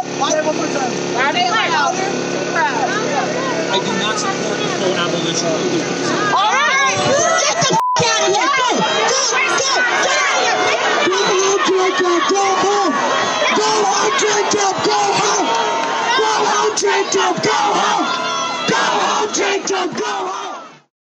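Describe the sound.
A large crowd erupts into loud, angry shouting in reaction to a man saying he does not want to defund the police, many voices yelling over one another in a dense, sustained roar that swells midway and stays intense until it cuts off.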